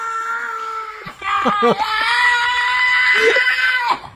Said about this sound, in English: Yeah, I think he just stubbed his toe. I think that's just how he barks. Some dogs have a messed up sense of what a bark is, I think, and that's what's going on there.